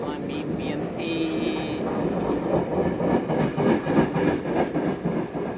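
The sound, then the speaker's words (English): A loud train on the harbour line tracks rumbles past, its steady roar and rhythmic clatter swelling and nearly burying a conversation underneath, with a brief high squeal early on. “For the second time, a train drowns us out again.”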